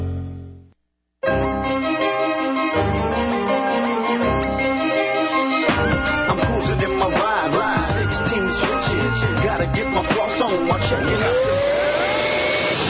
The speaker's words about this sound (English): Life may never be clean, but with Hoover, your floors can be. Hoover Floormate cleans all your hard floors. Hoover Wind Tunnel 2 Upright vacuums your carpets.